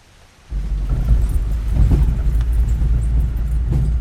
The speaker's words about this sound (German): Ein feiner, warmer Regen duscht der Wald.